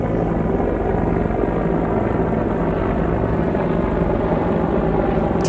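Two large helicopters fly low overhead, droning steadily and loudly throughout, their rotors producing a dense, continuous low thrum with a faint higher whine. No voices.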